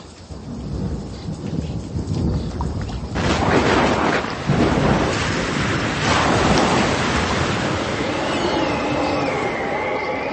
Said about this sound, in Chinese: 忽然起了暴风，波浪打入船内，甚至船要满了水。 啊，我身上湿了，哎呀，船都进水了。